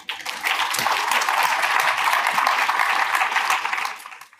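applause

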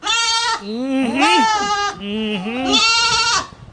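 goats bleating

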